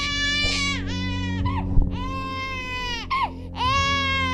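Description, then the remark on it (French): An infant boy almost one year old wails loudly in three long, strained cries separated by brief gasping breaths, each rising and falling in pitch with a harsh, sustained quality. “À ce moment-là, Nicolas, le petit frère de presque un an de Béatrice, se mit à pleurer.”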